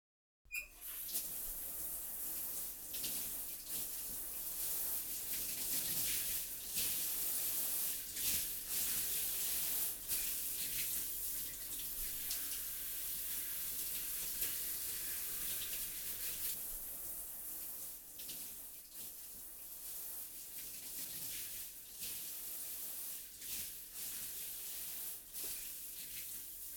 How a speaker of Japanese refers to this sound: そろそろ泡流しますね。私も一緒に。